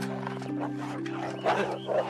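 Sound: dogs barking and growling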